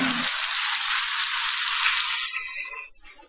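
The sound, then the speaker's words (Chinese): A burst of audience applause, dense and steady with many hands clapping at once, fading out toward the end. “拍手的一定没有烦恼了，恭喜你。”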